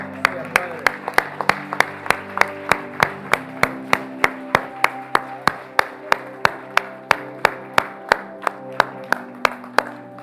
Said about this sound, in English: Oh, come on, let's clap and give God praise.